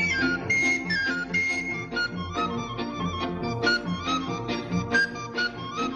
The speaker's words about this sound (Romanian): La noi la Petroșezi, îl mai zic cu fluiera.